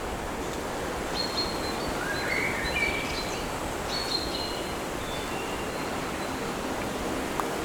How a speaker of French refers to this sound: quelques rafales de vent.